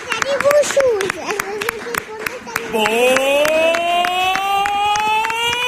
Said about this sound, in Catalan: Doncs simplement us volem donar un aplaudiment per tot el que ens dones